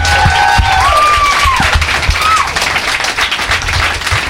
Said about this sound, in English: Let's have another round of applause for my guests. Thank you.